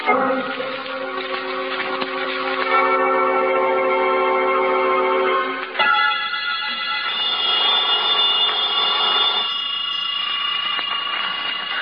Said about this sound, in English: About noontime, when the phone rang, I knew it was the clerk downstairs calling because I'd left a call for 12. I let the phone ring.